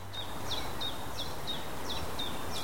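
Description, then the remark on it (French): Birds singing in the Fontainebleau forest, less than an hour from Paris, France: a quick, steady series of about eight short, high chirps repeats over a soft, constant outdoor hiss, with no one speaking. “À moins d'une heure de Paris, la forêt de Fontainebleau offre le calme des grands arbres et le chant des oiseaux.”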